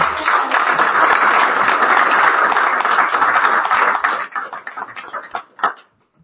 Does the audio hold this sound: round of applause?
yes